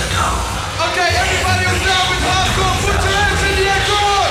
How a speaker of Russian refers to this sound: Вот одна из них орёт, у которой лифчик развязался. Вот избыток чувств.